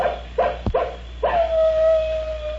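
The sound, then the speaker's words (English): A wolf lets out a few short yelping barks, then breaks into a long, sustained howl that holds steady and slowly fades, heard clearly with no one talking. “Say, we've got company. The wolves are out.”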